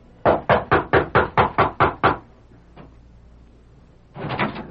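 A rapid series of about nine sharp, loud knocks on the wooden back door of a ranch house, the Flying W, as its foreman raps at ten o'clock on a bright summer morning, then a short pause and another quick burst of knocking at the end.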